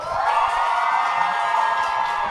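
A live audience applauds and cheers to vote and break a tie between contestants, a steady, dense wash of clapping with scattered whoops and shouts, loud and continuous throughout, with no speech on top.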